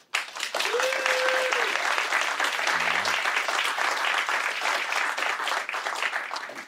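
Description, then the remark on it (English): Sustained audience applause, dense and steady for several seconds, with a few brief whoops rising above the clapping from a crowd applauding to show their opinion. “So first, let's find out, I want you to applaud to show your opinion as it stands right now, yes, no, and undecided.”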